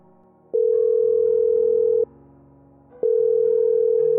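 A telephone ringing on the line as heard by the caller, a dialed call that rings on unanswered: two long, steady electronic tones separated by a short pause, clear and fairly loud over a low background hum.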